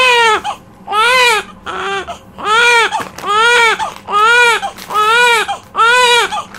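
A baby wails loudly in a steady series of about seven rising-and-falling cries, each roughly half a second to a second long with brief breaths between them.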